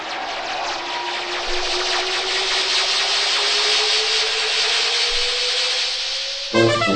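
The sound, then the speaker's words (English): In the radio play Our Man on Omega, a scooter engine revs and pulls away as a character departs, its whine climbing steadily in pitch over a loud, hissing buzz for several seconds before cutting off abruptly. No one speaks. “Bummer has been getting into the scooter, even as we spoke.”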